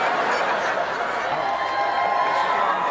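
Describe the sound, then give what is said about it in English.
A large crowd roars and cheers steadily for a few seconds, a dense, loud wash of many voices with scattered laughter mixed in. “Oh, hilarious to cheer for her.”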